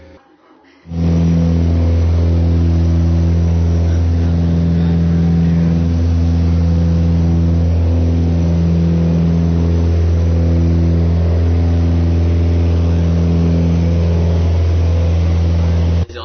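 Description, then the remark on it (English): The engine of a small propeller plane, belonging to camp director Mr. Buckingham and flying from Bethel to Keiko, drones steadily and loudly throughout, a low, even hum with strong tonal harmonics and a faint wavering pulse, with no voices over it. “This is the plane that we left in to go to Keiko, from Bethel to Keiko.”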